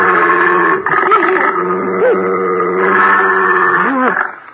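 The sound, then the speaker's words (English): A female bloodhound called Señor Satan bays loudly in long, sustained, rich-toned howls whose pitch wavers and bends, carrying on for several seconds before trailing off, with no talking over it. “She's what you call a hound of blood.”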